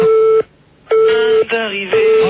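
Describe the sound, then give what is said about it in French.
A telephone line's busy tone: a loud, steady electronic beep repeating in short on-off pulses with brief gaps, thin and band-limited as if heard through the handset. “tu raccroches le téléphone, s'il te plaît, merci.”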